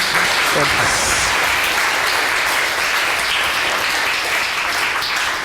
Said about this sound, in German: Also nochmal, zweiten Applaus, wenn es geht.